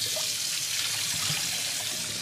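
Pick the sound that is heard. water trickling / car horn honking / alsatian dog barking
water trickling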